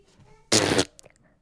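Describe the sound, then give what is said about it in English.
A single loud, raspy fart sound bursts out for about a third of a second, standing alone against a quiet background, followed by a few faint clicks. “Does that mean no or did you fart?”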